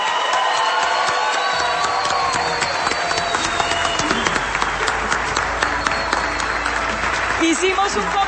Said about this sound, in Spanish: Ustedes estaban haciendo mucha bulla ahora, así que aplaudan para que los escuchen en todo el país.